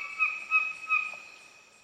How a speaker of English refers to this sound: And then every once in a while, it'll throw in this weird, odd squawk or ugly noise, just so we know it's actually a bird.